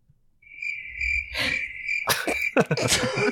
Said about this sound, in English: Oh, no, I didn't press anything. That's real crickets.